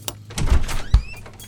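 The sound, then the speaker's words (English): A door knocker bangs against a door a few times in an uneven rhythm, heavy solid knocks, with no one speaking. “A door knocker? So pretentious.”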